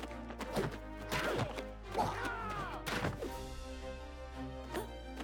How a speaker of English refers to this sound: He caught the soldier's wrist, twisted, and sent him crashing into a bulkhead.